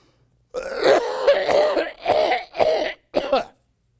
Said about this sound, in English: I have a horrible cough.